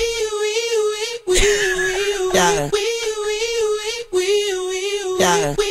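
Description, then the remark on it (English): A voice imitates a police squad car siren, holding a loud, steady, high wail broken by quick swooping pitch slides, repeated twice in a regular cycle with no other sounds. “When they hit the siren on the squad car, it sounds like this.”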